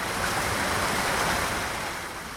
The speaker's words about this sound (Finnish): Ateenan katukuvassa suihkulähteet pulppuavat entiseen malliin.